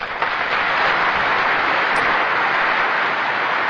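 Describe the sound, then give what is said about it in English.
Sustained, dense applause from a large crowd for Lyndon Baines Johnson in 1965, after he says it is wrong to deny any fellow Americans the right to vote. It is a steady, loud wash of many hands clapping at once, with no pauses or voices breaking through. “A rousing round of applause for Lyndon Baines Johnson in 1965, saying it is morally wrong to deprive any of your fellow citizens the right to vote.”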